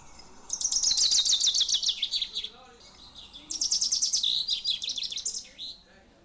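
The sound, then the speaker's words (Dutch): A finch sings two bright, rattling song phrases, each a fast descending series of high notes ending in a flourish, with a short pause between them, clear. “Vink. Een vink, jawel. Ja, ja, dat is het.”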